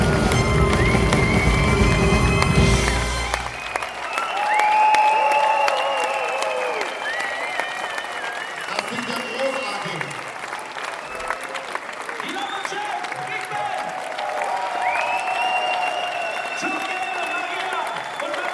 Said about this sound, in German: Und vielen Dank der …. Und ein Riesenapplaus für Mr.